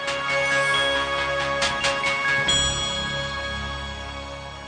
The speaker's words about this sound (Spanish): Suena la campana para Canto Maestro.